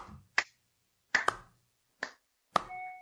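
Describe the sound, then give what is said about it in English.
A slow clap from two commentators congratulating an undefeated player: about five sharp, crisp claps spaced unevenly with long pauses between, two landing close together, followed by a faint lingering electronic tone at the end. No one speaks. “I think what he deserves is a slow clap from both of us.”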